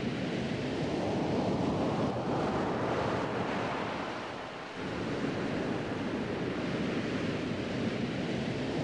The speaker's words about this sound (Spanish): El mar había bajado tanto que apenas se le oía rasgar sus listones blancos.